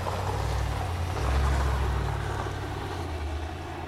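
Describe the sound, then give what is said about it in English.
A neighbor's truck drives past, its deep engine rumble swelling to a peak and then easing slightly as it continues, with no voices. “We're gonna have one of our neighbors drive past us at this point.”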